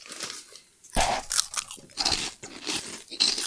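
Close, loud crunching of a crispy snack, with a sharp first bite followed by repeated chewing crunches in an irregular rhythm, no talking.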